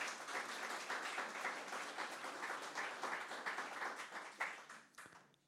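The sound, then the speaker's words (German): A church audience applauds God steadily for several seconds at the inauguration of its new audience rooms, a dense wash of many hands clapping at once that stays fairly even before tapering off near the end. “Können wir Gott nochmal einen Applaus geben?”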